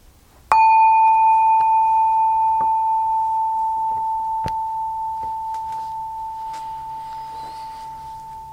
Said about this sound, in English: So as usual, one ring of the bell to start and three bells to finish.